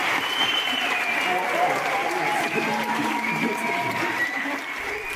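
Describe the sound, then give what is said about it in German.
Loud, sustained applause from a large theatre audience rising from their seats after a slam stage piece, with high whistles streaking across the clapping and scattered cheering voices rising throughout. “Pfiffe und Jubelrufe gehen im aufbrandenden, tosenden Applaus unter.”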